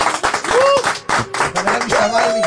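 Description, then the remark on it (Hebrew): A crowd claps steadily and loudly to welcome an arriving guest, a dense patter of hand claps mixed with a few rising and falling vocal shouts or cheers over the top. “הגיע לי פה אורח מאוד חשוב שאני מאוד אוהב אותו, דודי איינהורן, תנו לו כפיים”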